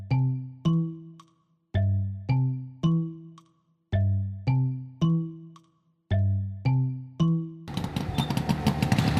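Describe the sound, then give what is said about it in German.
A run of loud, decaying three-note chimes repeats, then the rough, buzzing engine of an Easter-themed car in Ladbergen, sounding like a motorcycle, suddenly roars in loudly for the last second or two. “Hörst du das auch? Nee, das ist kein Motorrad, das ist ein Ostermobil.”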